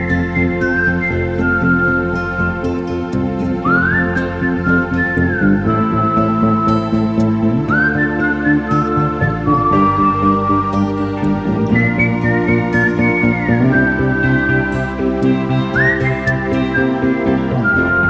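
A clear, loud whistled melody in a film soundtrack glides and slides over a full orchestral music backing, the tune rising and falling in long sustained phrases for the whole stretch, with no one talking.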